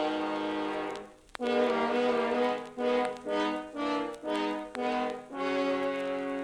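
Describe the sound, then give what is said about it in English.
Low, brassy French horns in an orchestra play the wolf's dark, menacing theme in chords: one long held note, then a series of short swelling accented notes, ending on a sustained chord, loud and without voices. “The wolf by horns.”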